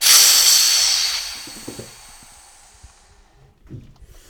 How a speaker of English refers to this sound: Okay, so here's what I have to do. Sandor releases the pressure on the lid to pour some of the liquid back into the tank.